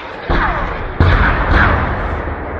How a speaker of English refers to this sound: A video posted on YouTube shows smoke rising from densely packed houses as the sound of rockets crashed nearby. Activists identified it as coming from the Bab Ammar neighborhood of Homs, where security forces have been shelling for 25 days.